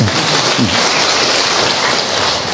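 A crowd of women bursts into sustained applause in support of a young woman invited up to the front, a dense, steady patter of many hands clapping at once that stays loud and even for the whole stretch, with no voices over it.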